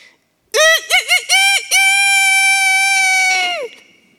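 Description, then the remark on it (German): A rooster crows loudly: three quick choppy notes, then one long, strained held call that fades out. There is no talking and no other sound. “Als der Hahn krähte, waren die bereits bei diesem alten Frau.”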